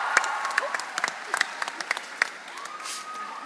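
A small audience claps for a guest being introduced on a talk show, in a loose, uneven patter of sharp individual hand claps, fairly light and thinning out toward the end, with a faint murmur of voices underneath.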